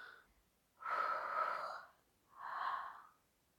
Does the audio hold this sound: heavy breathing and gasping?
yes